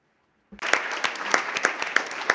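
Meeting participants break into sudden applause to elect bureau members by acclamation, after a brief quiet moment, many hands clapping steadily and fairly loud, with a few sharper claps standing out in the crowd.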